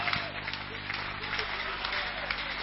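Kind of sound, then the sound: crowd, audience clapping hands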